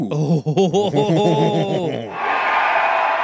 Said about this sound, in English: Why are they cheering, do you think? I don't know.